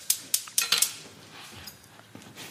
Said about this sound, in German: Markus klopft jetzt den Knoblauch an. Ich hack jetzt hier die Zwiebel weg.